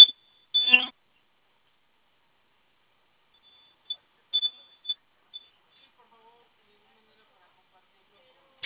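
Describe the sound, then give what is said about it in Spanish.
A few short, high-pitched electronic beeps from an alarm system keypad after the code was entered and the siren silenced, an irregular burst near the start followed by scattered quieter chirps, with long silent gaps between them. “Ok, esa es una alarma que emite el teclado de alarma, pero ahorita lo que se silenció fue la sirena al momento de que usted ingresó su clave.”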